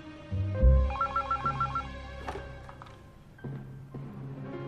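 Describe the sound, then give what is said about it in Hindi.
A telephone rings with a rapid warbling trill, repeating in short bursts over a low background hum, as an outgoing call is placed to a doctor; no one speaks while it rings. “Doctor तारामी को phone मिलाओ, अभी सब मालूम हो जाएगा।”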